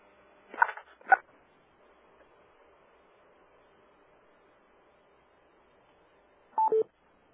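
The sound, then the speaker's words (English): Three short telephone keypad tones dialing #6 to come off mute on a phone line: two quick beeps close together near the start, then a long pause before a final slightly longer tone near the end, with faint line hiss between. “And this is just a reminder, if you're on the phones and you have a final comment or question, please take yourself off of mute by hitting #6, identify yourself and organization, and then ask your question.”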